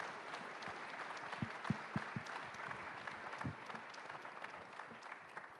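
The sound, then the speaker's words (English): An audience applauds steadily at a presentation, a dense wash of many hands clapping with a few sharper individual claps standing out, holding at an even level for several seconds. “Hey, please clap your hand.”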